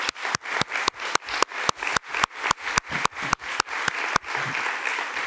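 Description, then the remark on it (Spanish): An audience applauds two people for a film, clapping in a steady synchronized rhythm, sharp regular beats over a wash of crowd noise, then breaking into loose continuous applause near the end. No one speaks. “He llegado al tiempo, así que pido un gran aplauso para los dos por esta estupenda película.”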